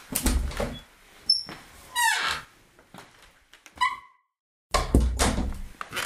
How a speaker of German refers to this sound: Sie kommen gerade zur Tür herein.